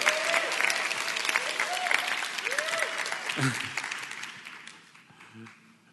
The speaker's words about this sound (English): Yeah, you can clap.